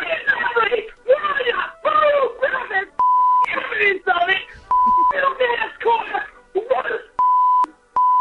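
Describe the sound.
Speech in an angry message about NASCAR is repeatedly cut by a steady, mid-pitched censorship bleep, with several flat tones of about half a second each replacing words between bursts of talking.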